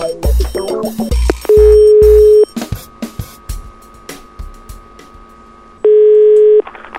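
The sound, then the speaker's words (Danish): A telephone call is placed from the TV quiz show Hvem vil være millionær?: quick dialing clicks and beeps, then two long steady ringing tones separated by a pause, with no one talking. “så jeg ringer op til den første.”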